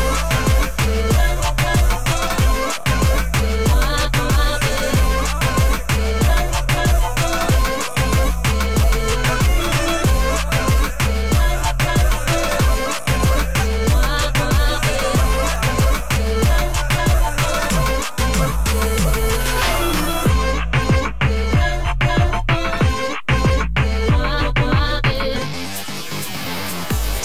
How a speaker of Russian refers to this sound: Прямо сейчас мы слышали трек от нашего исполнителя, от наших исполнителей